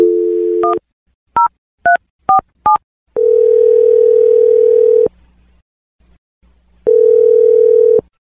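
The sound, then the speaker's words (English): A steady telephone dial tone, then a quick series of dialing beeps as a phone number is punched in for a call from the radio show Brooke and Jeffrey in the Morning, followed by long ringback tones separated by a pause, heard clearly with no talking. “I'm going to dial Ryder's phone number.”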